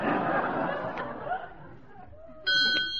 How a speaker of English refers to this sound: Say, what on earth is that little bell that keeps ringing? Oh, that's an automatic counting device. It rings a bell every time an egg is laid.